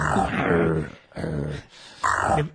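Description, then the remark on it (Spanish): An animal growls three times in quick succession, each a loud, rough rumble lasting under a second, separated by short pauses. “No te preocupes, es normal que gruña.”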